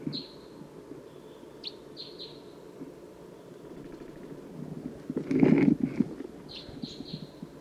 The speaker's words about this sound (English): I think there are other wild crossbills around.